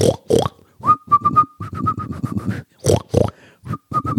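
Someone whistles a bouncy tune in quick, rhythmic repeated notes, interrupted by loud, rough grunting bursts that sound like a pig snorting. No one speaks.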